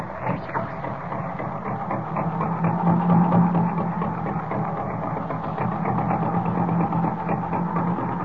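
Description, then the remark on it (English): An old car engine catches and settles into a steady, rough rumbling run, holding a low droning hum at an even loudness throughout, with no voices. “Hope I can get this crate started. There she goes.”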